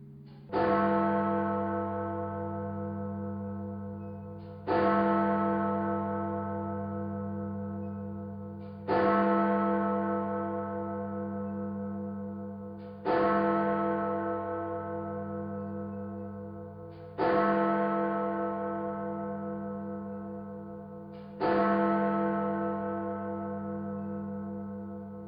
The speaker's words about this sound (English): As each chime struck the hour, you would keep silence and pray. Each chime was a reminder to remember those who had already died in the war and to pray for the nation.